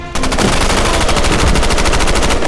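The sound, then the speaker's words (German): Rapid, sustained machine-gun fire rattles off in a fast, even stream of sharp, loud reports, riddling an enemy line round after round and continuing without pause for the whole stretch. “Patrone um Patrone durchsiebte es die feindliche Linie.”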